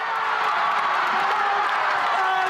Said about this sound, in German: Montag am Tag nach dem WM-Finale. Und der Jubel in Madrid, der war gestern riesig.